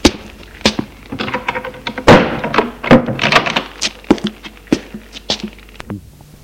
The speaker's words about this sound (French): Je le faisais rentrer et fermais la porte.